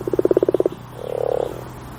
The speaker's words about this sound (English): Croak, croak. That's the unmistakable sound of the common frog.